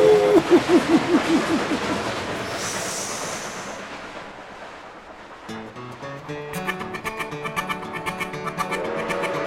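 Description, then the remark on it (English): A train chugs along in steady rhythmic bursts of hissing noise for several seconds, then fades as music with instruments takes over. “Chugga, chugga, chugga, chugga, chugga, chugga up the hill. Puffin' and a chuggin', you know that engine will reach the summit and go down the other side.”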